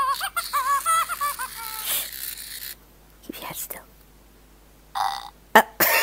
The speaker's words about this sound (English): That's what she does, she burps.